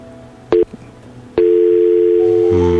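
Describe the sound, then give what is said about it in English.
A telephone line tone plays while a call connects: a short beep, a pause, then a steady held tone that shifts slightly near the end. It is loud, with no voices. “It does sound indeed like a sleeping phone.”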